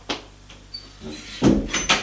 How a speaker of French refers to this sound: Il va vers la cuisine. Il ouvre la porte.